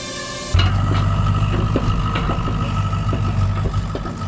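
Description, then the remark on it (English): At a summer camp, children aged 9 to 12 use a drill, a drone and a mini excavator: a brief high mechanical whine gives way to a steady, loud low engine rumble with a buzzing, drone-like hum above it. “Those are the sounds of summer camp. A drill, a drone, a mini excavator.”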